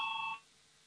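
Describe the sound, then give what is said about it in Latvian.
A parliament voting bell gives one short, bright electronic ring, steady and fairly loud, lasting only a moment before cutting off into near silence. It is rung to call a vote on proposal number 107. No one speaks. “Lūdzu zvanu, balsosim par 107. deputātas Goldbergas priekšlikumu.”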